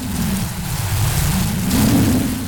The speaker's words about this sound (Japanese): ここ数年にないほどの大嵐が出羽の国を直撃したのでありました。